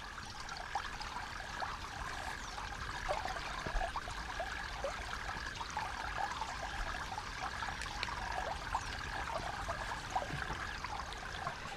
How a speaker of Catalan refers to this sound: Estem sentint l'aigua del riu com raja, no? Després, més endavant, ja veurem un altre paisatge. Llavors comprendreu aquest ciroll de l'aigua que se sent. Clar, penseu doncs que estem dins un bosc, eh?